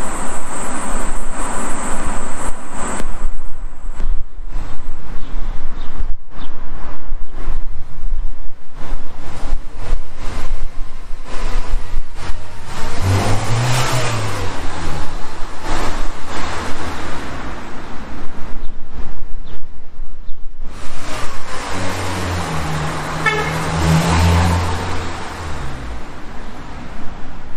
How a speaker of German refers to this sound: Ein schwarzer Golf fährt vorbei, er schaut sich ein bisschen herum.